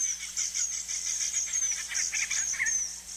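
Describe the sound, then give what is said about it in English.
Estrildid finches call in a steady stream of high, thin chirps and short buzzy notes, overlapping without pause at a moderate level, with no talking. “Baby estrel did finches look downright creepy.”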